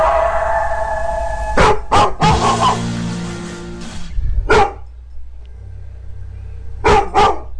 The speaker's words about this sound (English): Good growl, Max. Good growl. He goes off and we have the animal planet on, too. I don't know if you guys can hear the deep growls here.